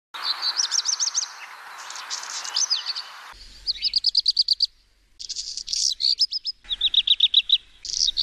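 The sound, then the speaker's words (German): Black redstart song: several short, high-pitched phrases of rapid repeated chirping notes, each burst separated by brief pauses, with no voices. “Und so hört sich der Hausrotschwanz an.”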